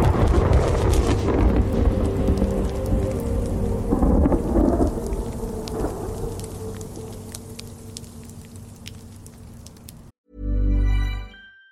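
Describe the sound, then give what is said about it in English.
Steady rain patters down while deep thunder rumbles and rolls, loudest early on and slowly fading, before a short muffled low rumble at the end. “Wow, is it raining right now? It is starting to rain.”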